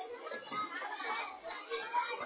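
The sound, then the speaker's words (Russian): Children shout and chatter in the background, a steady, muffled jumble of young voices with no clear words that carries on without a break for the whole stretch. “Дети здесь кричат, потому что мне плохо слышно.”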